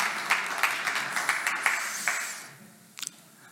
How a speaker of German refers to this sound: Lass uns doch mal dem Lobpreisteam noch mal einen Applaus geben für diese gute Zeit, die wir haben durften.